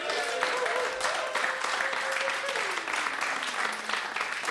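A crowd claps loudly and steadily for several seconds for a band appearing live on a programme, a dense wash of applause with a sustained tone sliding downward beneath it, and a few cheers mixed in.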